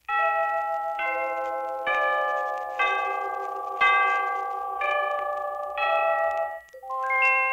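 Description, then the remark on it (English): A radio station time-signal gong marking approximately 6:31 p.m. sounds as a steady sequence of about eight resonant, bell-like chime tones, each struck roughly once a second and ringing on into the next, loud and clear with no voices. “At the sound of the gong, the time will be approximately 6:31 p.m.”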